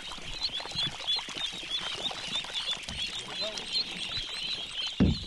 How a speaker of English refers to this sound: The ducklings hop and tumble out of the bins at the edge of the rice paddy.